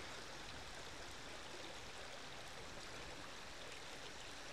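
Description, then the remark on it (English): A river babbles steadily over rocks in sunshine, with daffodils along the bank, a continuous bright rush of flowing water with gentle gurgles, unbroken with no voices. “As it babbles over the rocks, the water's glinting in the sunshine, which is producing this beautiful backdrop to the daffodils.”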